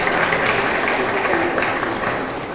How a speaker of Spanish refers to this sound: Fuerte, fuerte el aplauso, por favor.